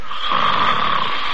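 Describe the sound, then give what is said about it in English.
A man snoring in his sleep, one long, steady, raspy breath that stays fairly loud for the whole moment, with no talking. “Oh, look at that. He's sound asleep again.”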